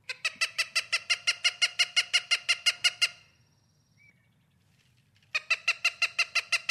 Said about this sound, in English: I want to listen to the Cooper's hawk and let's talk about him a little bit.